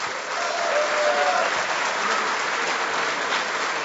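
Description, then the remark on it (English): A crowd applauds steadily to signal interest in talking candidly with a very senior member of the CIA, a dense wash of many hands clapping at once that stays fairly loud and even throughout, with no individual claps standing out. “So if I could kind of get a signal from the audience right now as to how interested you would be in being able to talk candidly with a very senior member of the CIA, either raise your hands or applaud.”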